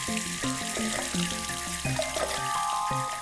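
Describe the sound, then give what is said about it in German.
Groundwater from deep underground runs steadily from a tap with a continuous hissing rush, fairly loud, while a stepping tonal melody plays faintly underneath. “Denn es ist ein echter Schatz, der da aus der Tiefe kommt und so selbstverständlich aus dem Hahn strömt.”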